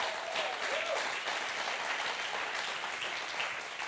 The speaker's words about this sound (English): go on, you can go on and give the Lord a clap.